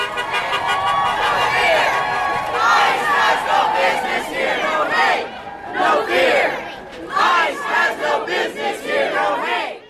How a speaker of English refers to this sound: A few miles down the road from the warehouse, outside the City Hall building in Surprise, a crowd of hundreds is swarming the entrance.